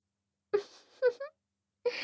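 A breathy yawn with a moaning, voiced tone, broken into a couple of drawn-out sighs, followed by a pause and then a soft, airy exhale.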